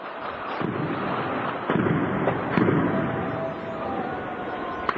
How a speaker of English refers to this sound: The haunting sound of gunfire and explosions in the Syrian city of Hama as people shout "God is great" from nearby buildings. It's impossible to verify, but the man filming this violence says the security forces are shelling the district.